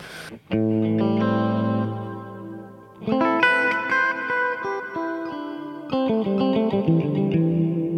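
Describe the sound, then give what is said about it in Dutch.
An electric guitar plays alone, fairly loud: a sustained chord, then fresh strums with picked notes, each washed in a thick, lingering reverb that smears the tones together. “Ja, dat is een beetje dikker galm.”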